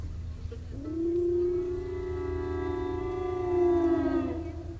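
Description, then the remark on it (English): A voice imitates the low, squalling whistle of the train that carried Jimmie Rodgers home, its whistle open wide as it went down the track. It holds one long, steady, slightly rising wail for about three and a half seconds over a low background rumble. “And the engineer had the throttle down as low as it would go, and he had the whistle open wide open so it made a low squalling sound as it went down the track, sort of like.”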